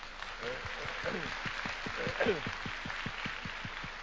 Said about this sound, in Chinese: 哎，我们一起用掌声。